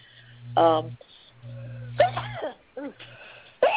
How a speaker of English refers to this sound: excuse me. Bless you. Yeah. Bless me.